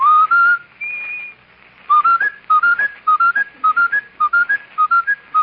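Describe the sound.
A whistler whistles a bright melody, then stutters the same short rising phrase over and over in quick, even repeats, imitating a skipping broken record. Loud, with no talking.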